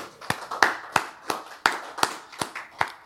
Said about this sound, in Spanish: Que levante la mano las madres de familia, por favor. Vamos a dar palmas al Señor por ellas.